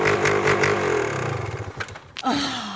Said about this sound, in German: Und woher soll ich wissen, ob der Motor funktioniert, wenn ich es nicht ausprobiere?